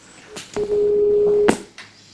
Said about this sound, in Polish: Rozłączyli się. O nieudane połączenia.